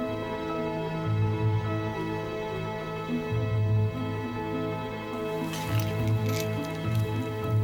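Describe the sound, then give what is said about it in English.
Soft, wet squelches as a woman carefully dabs colours of paint onto a palette, repeating every couple of seconds over a quiet hum, with no talking. “Greet carefully puts colours on the palette.”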